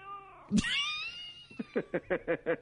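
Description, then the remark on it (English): A cat lets out a loud, drawn-out yowling meow, followed by a quick series of six or so short, rhythmic chirping meows. “How's that for being on cue? Oh, my goodness. That kitty cat's got personality.”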